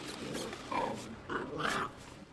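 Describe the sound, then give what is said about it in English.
A small puppy whimpers and growls in a few short bursts, high whiny tones rising and falling over a low rumble, with no voices, as a brother and sister chase it around on a top floor. “And on the top floor, a brother and sister chase around a small puppy dog.”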